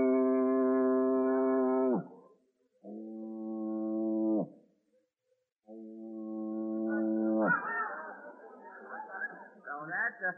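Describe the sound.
A voice imitates a foghorn with three long, deep, droning blasts separated by short pauses, followed by a burst of loud, noisy crowd reaction.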